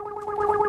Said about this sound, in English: why has my alarm clock gone off at 6 o'clock? That's what time you asked for.